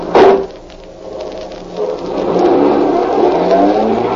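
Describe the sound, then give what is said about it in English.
A car engine catches with a sharp burst, then revs up and roars steadily louder as the vehicle pulls away, the engine pitch climbing under a rushing, gritty hiss. No one speaks. “Come on, I said, Joe. Get this car moving.”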